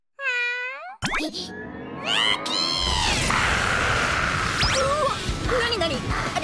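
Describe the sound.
A cat meows a few times, short rising and falling cries, followed by a busy backdrop of noise and other voices with a couple of brief sliding tones.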